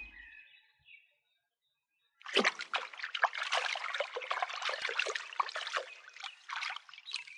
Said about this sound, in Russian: Вытащил хомяк клетку из воды, вертит ею и туды, и сюды, что делать не знает.